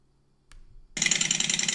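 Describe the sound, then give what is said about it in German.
A Harley motorcycle engine: a brief click and low churning crank, then the engine catches and roars loudly with a steady, throbbing pulse. “Auf jeden Fall keine Vergaser-Harley, ist eine Einspritzer-Harley.”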